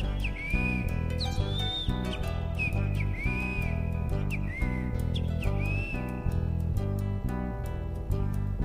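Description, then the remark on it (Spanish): A great kiskadee's shrill, rising call repeats roughly every second and a half, riding clearly above loud, rhythmic folk music with steady strummed and percussive accompaniment. “Grita el bicho feo.”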